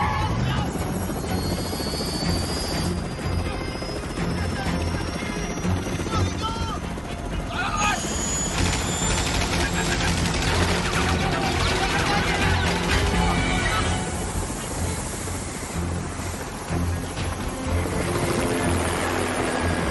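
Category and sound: vehicle, helicopter rotor and engine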